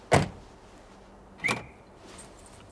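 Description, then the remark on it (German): The door of a dark limousine parked at the roadside slams shut with a sharp, full-bodied thud, followed a moment later by a second quick mechanical clunk and a faint chirp as the car is locked. “Meine Erleichterung währt nur kurz, denn du bittest mich nicht einzusteigen, damit wir dieses Viertel verlassen können, sondern schlägst die Autotür zu und schließt den Wagen ab.”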